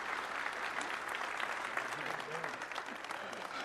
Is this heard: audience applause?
yes